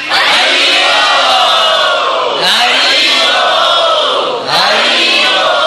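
A crowd of Vaishnava devotees shouts "Haribol" together three times in a steady rhythm, each loud collective call swelling and then falling before the next begins.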